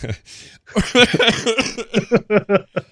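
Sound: coughing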